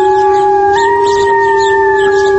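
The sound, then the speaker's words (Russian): A wolf howls in one long, unbroken tone that steps slightly higher partway through, loud and steady for the whole stretch with no voices. “В зоопарках волки никогда не воют в присутствии людей.”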